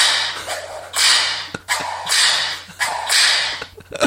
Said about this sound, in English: Does it have different whips that you can choose? It's got lots of different whips. Oh my goodness. Whoa. That's getting scary. This is a big bull whip.